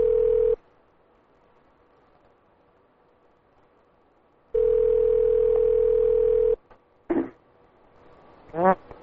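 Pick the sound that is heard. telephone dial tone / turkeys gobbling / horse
telephone dial tone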